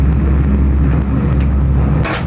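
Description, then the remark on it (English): A loud engine rumbles unevenly, its deep droning note stuttering as the car misfires, with a sharper sputtering burst near the end. “Hello, even the car's missing.”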